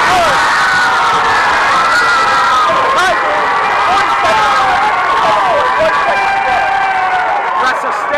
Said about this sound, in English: Looking at his friends and fans in the stands, cheering. I've never seen him this excited.